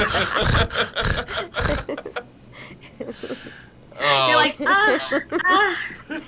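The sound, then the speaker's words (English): A voice imitates a woman panting heavily into a microphone: several loud, rasping gasps in quick rhythm, followed by strained vocal sounds and talking. “She's going to be like... her on the mic breathing heavily.”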